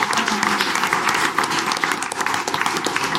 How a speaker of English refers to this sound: Thank you. All right, give a round of applause to our brave Hot Wing soldiers.